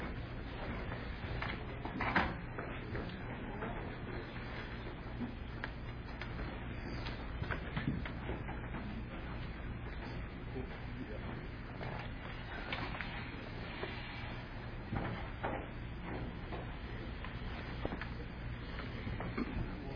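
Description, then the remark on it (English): Men carry chairs and set them down on the floor to begin the Lord's Supper, with scattered thumps, clatters and scrapes at a moderate level over a steady hum of movement. “You men can help me bring some chairs, and we'll begin the Lord's Supper here down here on the floor here.”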